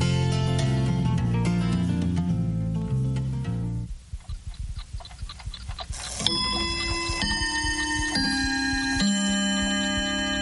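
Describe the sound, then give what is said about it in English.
An old clock ticks steadily for a couple of seconds between stretches of ringing, melodic chimes, with no one speaking. “I agree, they don't have clocks like yours.”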